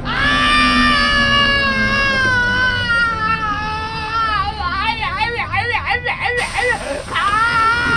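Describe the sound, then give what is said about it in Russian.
A man screams into a microphone as if in agony, a long, loud, strained howl that wavers in pitch and breaks into shaky, sobbing warbles toward the end. The voice is performing the scream. “Ну или просто весь зачуханный заходишь в автобус и начинаешь орать, как будто тебе яйца режут, и говоришь то, что ты повелитель Эболы.”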